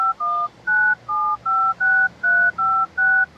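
A telephone number being dialed: about eight steady touch-tone beeps in an even rhythm, each a clear two-note electronic tone, with no one speaking.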